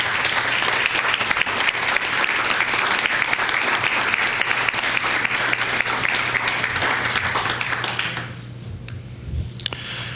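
An audience claps for an honored teacher in a dense, sustained burst of applause for about eight seconds, then it quickly thins out and fades to a few scattered claps.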